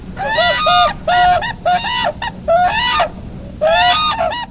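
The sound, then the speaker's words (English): Whooping cranes call loudly, a run of about six brassy, bugling notes in quick bursts with short gaps, over a low rumbling background; calls recorded in winter by researcher Colleen Sadisher. “This winter, Colleen Sadisher recorded some of the birds' calls.”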